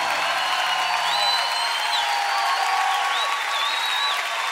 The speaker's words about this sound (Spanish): Ríndele ese aplauso más fuerte a Jesucristo el Salvador.